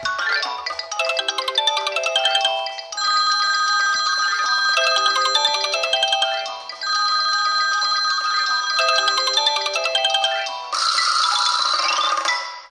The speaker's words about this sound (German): Heute klingeln unterm Weihnachtsbaum smarte Uhren und Telefone.